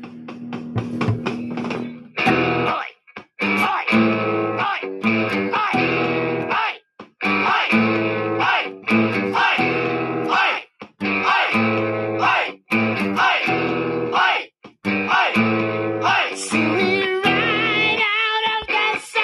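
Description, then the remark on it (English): A distorted electric guitar plays a chunky, rhythmic riff of repeated power chords with short choppy gaps between them, loud and alone after a brief noisy strum at the start. “Yeah, man, I can play guitar.”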